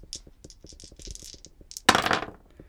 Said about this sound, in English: Let's roll the dice. I'll roll two dice this time and see what happens.